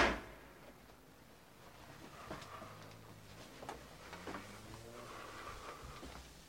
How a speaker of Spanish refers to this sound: Ahora se abre la puerta del baño.